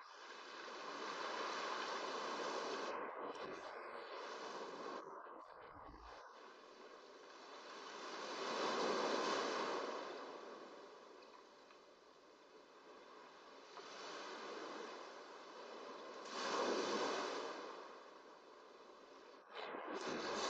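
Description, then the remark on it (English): Ocean surf washes steadily, with waves slowly swelling and receding in broad, rushing surges every several seconds. Steady and moderately loud, with no voices. “It synchronizes with the ebb and flow of the surf.”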